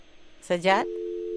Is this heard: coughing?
no